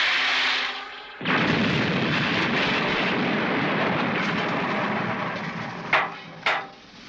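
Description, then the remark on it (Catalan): A sudden loud, roaring crash bursts in and holds as a dense rumbling wash as an airplane, knocked down by a kick, plunges into a forest, with two sharp snapping impacts near the end. No voices. “L'avió es precipita cap al bosc.”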